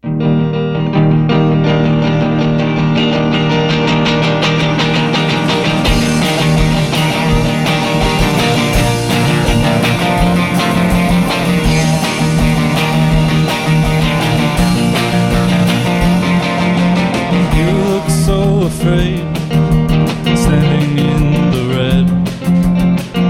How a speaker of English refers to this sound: All right, sweet guys, so this next song is called …, and it is the debut here on CFRC Live Sessions.